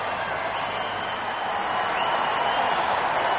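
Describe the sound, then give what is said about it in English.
A large crowd outside St. Paul's Cathedral cheers and roars for Lady Diana as the bride is about to emerge, in a dense, continuous wash of voices that holds steady and swells slightly toward the end, with no single speaker standing out. “This is the cheer from the crowd of people who want to see her.”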